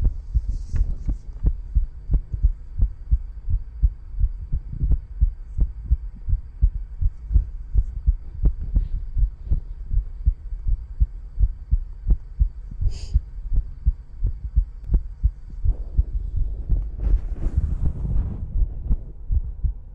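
A rapid heartbeat thuds steadily and close up, with quick, even, muffled pulses repeating throughout over a low background hum.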